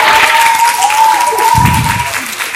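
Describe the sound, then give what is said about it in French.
An audience applauds steadily and loudly throughout to welcome two guests, dense clapping filling the space, with a faint steady tone and some low murmuring beneath it. “Et je vous prie d'encore applaudir nos deux prochains super invités”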